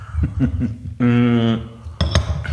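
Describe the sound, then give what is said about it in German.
Ceramic coffee cups knock together in a quick toast, a bright clink that rings briefly, with a few light taps of crockery and a soft chuckle. “Okay, dann lass uns mal ganz kurz hier anstoßen. Runde 2, jetzt haben wir hier Kaffee ganz stilvoll.”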